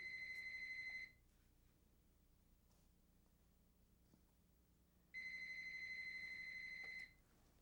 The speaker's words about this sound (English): Whose phone is that? They'll call back. Someone on the desk over there.